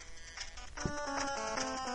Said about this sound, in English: Alright, here is my ringtone.